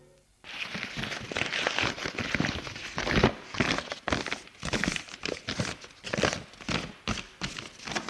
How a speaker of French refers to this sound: Il a trouvé dans la poubelle de la cuisine une lettre froissée, la défroissée et lit.